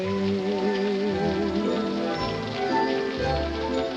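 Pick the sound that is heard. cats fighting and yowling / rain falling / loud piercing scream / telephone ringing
rain falling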